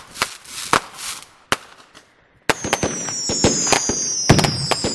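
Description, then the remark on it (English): Fireworks let off at Guy Fawkes bonfire celebrations: a few scattered loud bangs, then a dense barrage of crackling explosions with high whistling streaks, loud, no voices. “And as the bonfires burn, fireworks are let off in wonderful and spectacular displays.”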